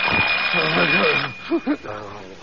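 alarm clock ringing

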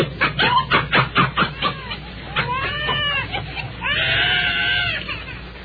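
dog barking

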